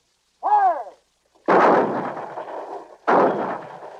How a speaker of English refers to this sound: A sergeant explains, these mortars may not be as big as your Navy guns, but they do the job up here. The sailors help fire the mortars. Enemy troops in the open. Across the Han River, near a radio tower. Elevation 800, shell HE. Charge 20.50.